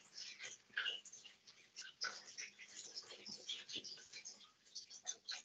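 Quiet, breathy dog noises, soft snuffling and faint whimpers in an irregular stream, in a room, with no clear talking.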